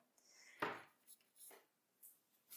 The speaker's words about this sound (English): Oh, I need to wash my mug too.